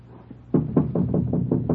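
A rapid series of about seven firm knocks on the door of a flat, evenly spaced, following a brief quiet moment with a low background hum.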